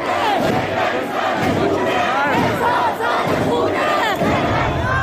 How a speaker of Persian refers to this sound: در نوار دیگر زنی در داخل مترو نمایان می شود که حجابش را آتش زده، ازدحام بزرگ شعار اعتراض های اخیر را تکرار می نماید.